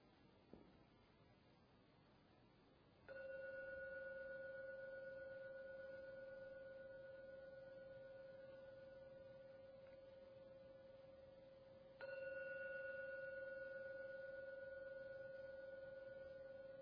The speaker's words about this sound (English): Please keep your eyes closed until the last ringing vanishes to enjoy a very smooth transition using the gong to come out from meditation back into the world. When the last sound from the 3rd ringing vanishes, then open your eyes.